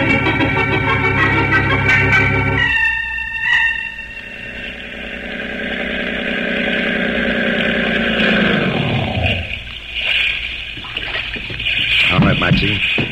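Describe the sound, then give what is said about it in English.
A motorboat engine drones steadily and loudly, its pitch sliding down as it throttles back, then revving up again amid splashing water. “I think we'll take a little boat ride.”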